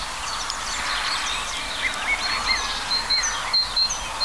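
A great tit sings a series of short, clear, high notes in a steady repeating rhythm over a dense background hiss of other birds and insects.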